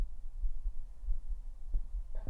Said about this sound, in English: We're gonna listen to …'s heartbeat.